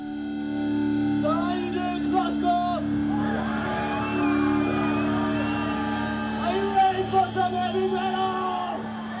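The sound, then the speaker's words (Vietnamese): Loud heavy metal with harsh, screamed vocals over a thick, droning distorted guitar, playing continuously at steady volume with a few sharper bursts near the end. “thường được dùng những cây guitar đã được chỉnh biến lại với những tiếng hát trầm, tiếng gào và tiếng trống đã được cải biến.”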